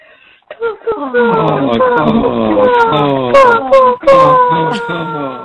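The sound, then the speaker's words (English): A person on a voicemail message imitates crow caws with loud, nasal, wavering vocal calls that bend up and down in pitch, running almost continuously for about five seconds after a couple of short opening sounds. “Our favorite nature sound is crows.”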